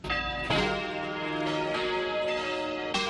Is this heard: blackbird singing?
no